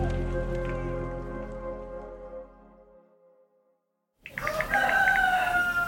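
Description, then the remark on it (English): A decaying musical tone fades into a moment of silence, then a rooster bursts into a loud crow over a noisy, hissing background. No one speaks. “Oh, I hear a rooster.”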